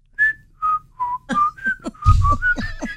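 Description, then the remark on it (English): A person whistles with the lips a short series of clear notes that step up and down in pitch, each note brief with small gaps, breathy air noise mixed in toward the end. “No, you have to put your lips together and blow.”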